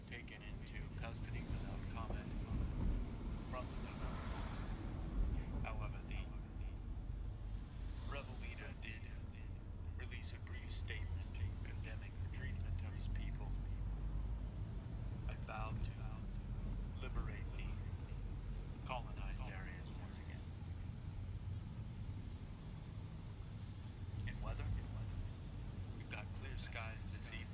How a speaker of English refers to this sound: And from there we're off, driving through the night, with Charlie and Walter, while the car radio murmurs in the background.